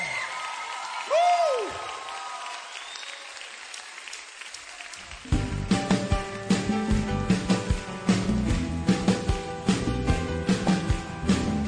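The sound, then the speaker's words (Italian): After about five quiet seconds with a brief swooping tone, an audience breaks into loud, sustained applause for the king, dense crackling claps continuing steadily to the end. “Colui che governa, a colui che regna, voglio sentire un applauso al re.”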